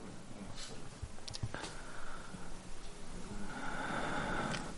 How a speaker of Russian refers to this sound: В тишине. В полной тишине мы постараемся почувствовать дыхание товарищей. И с ними синхронизироваться, дышать как одному человеку, быть в одном стремлении, в одной поддержке.